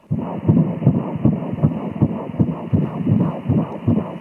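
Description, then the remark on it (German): A fast fetal heartbeat at six weeks of pregnancy on an ultrasound monitor: rapid, evenly spaced whooshing pulses, about a dozen in quick succession, loud and steady, with a muffled hum underneath and no voices. “Habt ihr das gehört? Das ist der Herzschlag. Ganz schön schnell, oder?”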